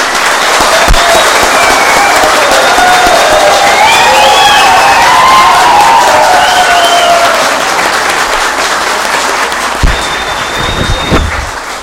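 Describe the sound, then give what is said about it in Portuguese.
A crowd applauds steadily for about twelve seconds, dense clapping mixed with scattered cheers and whistles, with a few sharp thumps near the end, after Paulinho Bortolini is sworn in as mayor of Nova Santa Helena with vice mayor Rafael. “Empossado o Paulinho Bortolini, prefeito de Nova Santa Helena, e o vice Rafael, aplausos de vocês.”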